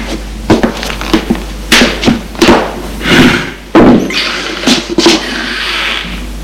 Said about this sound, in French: Assieds-toi, Émile va s'asseoir sur une chaise à table.